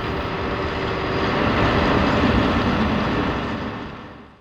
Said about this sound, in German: Noch ein Beispiel gefällig? Ein riesiger Lastwagen mit Anhänger fährt über die holprige Straße.